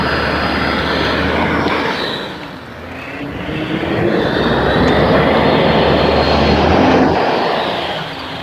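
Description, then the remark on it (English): A tractor engine rumbles loudly, a steady low drone with a rough mechanical roar that dips briefly before swelling back to full strength. “That's a charge tractor here.”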